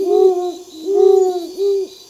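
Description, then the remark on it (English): A great horned owl hoots three times in a slow, steady series of deep, resonant notes, clear, with no other sounds around it. “Distributed throughout vast portions of North and South America, the great horned owl is famous for its hoot.”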